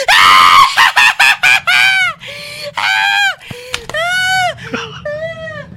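A person screams loudly, starting with a quick burst of short shrieks, then several longer, drawn-out wails with a harsh, almost honking quality.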